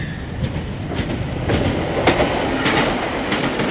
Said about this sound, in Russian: Мимо пронесся встречный поезд. На огромной скорости слились в одну полосу освещенные окна.